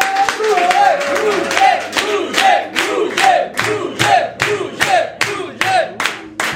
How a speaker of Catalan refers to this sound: Doncs rebem amb un fort aplaudiment a Roger Escapa.